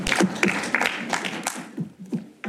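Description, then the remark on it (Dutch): A small group of council members applauds an unopposed appointment of representatives to the sounding board group of the Zwolle region, the claps dense and irregular at first and thinning out toward the end of the brief burst, with no voices. “Geldt ook hier het applaus.”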